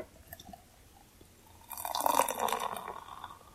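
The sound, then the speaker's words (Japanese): Kirin Ichiban Shibori beer pours into a glass, a bright, fizzy gurgle that swells after a quiet start and holds for a couple of seconds with foamy crackle, leaving a lot of foam. “うわー、いい音ですね。ちょっと泡が多かったな。”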